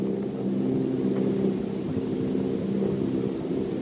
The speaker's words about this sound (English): Machines are close together now, and we're ready to attack. Planes circling, ready to strike.